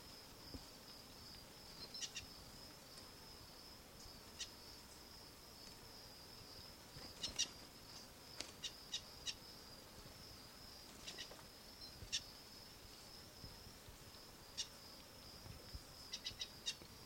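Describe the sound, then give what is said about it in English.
Short, sharp chirps of a wild bird calling in the background pop up irregularly, a few in quick bursts, over a steady high-pitched insect-like hum that runs throughout. The whole scene is quiet, with no voices. “Wild bird call.”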